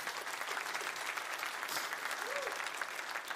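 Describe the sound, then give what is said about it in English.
Steady audience applause, a dense crackle of many hands clapping at an even level throughout, with a brief vocal sound rising faintly through the clapping. “Want to clap for that? I'm going to clap for that.”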